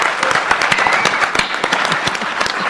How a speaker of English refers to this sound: Come on, guys. They deserve a really big applause, because the creative thing about Lucha Underground has made this product what is it?